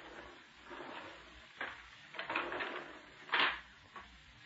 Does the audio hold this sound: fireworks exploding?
no